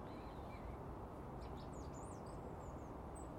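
Faint, high chirps from a robin named Rocky, up in an apple tree in the morning, flit in a quick series over steady outdoor hiss, with no voices present.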